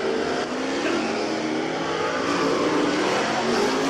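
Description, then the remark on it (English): Several race cars roar continuously around a dirt track at Farmer City, doing hot laps to check the gears and warm up the cars, engines revving and droning at steady high volume with rising harmonic whines as they accelerate, no voices heard. “The drivers do several hot laps around the track to check the gears and get the cars warmed up.”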